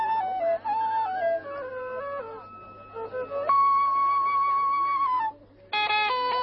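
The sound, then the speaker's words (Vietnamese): A flute plays by the Ganges river in India, a slow melody of sustained notes stepping up and down, with one long held tone, a brief break, then a final phrase, over a steady low hum. “Tiếng sáo ven sông gợi một âm thanh trần thế.”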